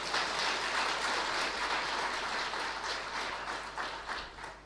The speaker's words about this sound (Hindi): ये तो एक बार जोर से अपने लिए ताली बजा दो।